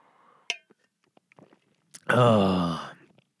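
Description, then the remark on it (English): Someone takes a quick sip of water, with small wet mouth clicks and swallowing sounds, followed by a loud, drawn-out voiced exhale of relief. “I'm going to have to take a sip of this water, and then we're going to get underway.”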